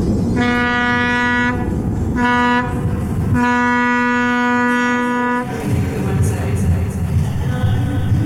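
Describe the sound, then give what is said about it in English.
A deep, loud tugboat horn sounds three times: a long blast, a short one, then another long blast, followed by a low rumbling drone with no horn. “of a car crash, a fighter jet, like like that, and a tugboat going, ooh, ooh.”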